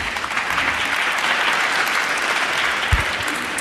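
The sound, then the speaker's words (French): Sustained applause from a large audience, a dense, even wash of clapping that fills the whole stretch at steady loudness, with a single sharper thump near the end and no voices. “Chaque série d'applaudissements vous accorde des points, donc c'est bien, vous êtes tous à égalité.”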